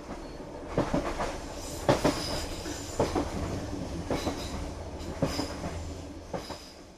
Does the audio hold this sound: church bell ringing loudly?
no